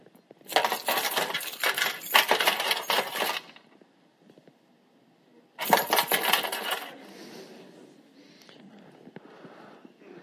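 A cascade of coins pours noisily into a metal container in a temple treasury for about three seconds, pauses, then a second shorter rush of clinking coins follows, fading into a faint rattle.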